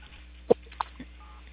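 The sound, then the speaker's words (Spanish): Three short key presses on a mobile phone as someone saves a number into it during a call, spaced unevenly over a second or so, each a quick click or beep heard faintly through a narrow telephone line, with no talking. “Se están aplastando sus teclas.”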